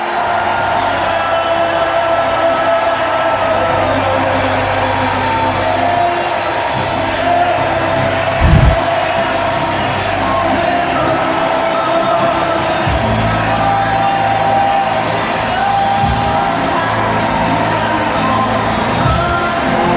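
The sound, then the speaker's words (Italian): A large crowd at a Christian worship gathering shouts and cheers together, raising a shout of joy to the Lord in a loud, continuous roar of joyful voices that fills the whole stretch, with a few low thumps underneath. “Innalziamo un grida di gioia.”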